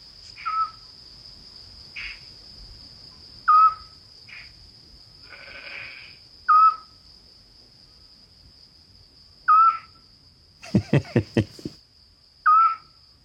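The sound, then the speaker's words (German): A Eurasian scops owl gives short, clear whistled notes spaced a few seconds apart, over a steady high insect drone at night, with a brief burst of rapid clicking knocks near the end. “Das ist die Zwergohreule.”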